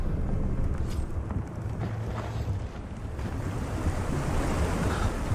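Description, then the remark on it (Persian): Loud, continuous roar of ocean waves and churning water as the sea rises fast, with heavy surf washing steadily throughout and wind buffeting the microphone. No voices. “آب داره سریع بالا میاد.”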